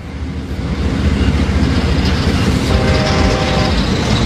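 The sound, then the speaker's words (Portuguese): A train rolls past with a steady, loud rumble and a rhythmic clickety-clack of wheels on rails, building up in the first second and then holding constant, with no voices. “O trem, trem. O trem da comunicação.”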